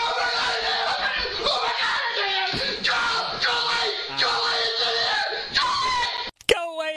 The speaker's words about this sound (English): Either way, that guy deserves an award for high pitched scream.